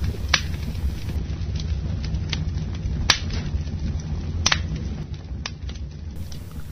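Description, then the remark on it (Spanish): A fire crackles steadily, with sharp, irregular pops and snaps breaking through a low, continuous rumble. It sounds moderately loud, with no voices. “¿Escuchan el fuego?”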